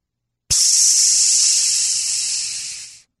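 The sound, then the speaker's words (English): A person voices a single long, steady hiss, a sharp airy "sss" that starts abruptly, holds for about two and a half seconds, then trails off. No other sounds or talk. “Is that a hiss or is that a psss? I don't know what noise to make for this one,”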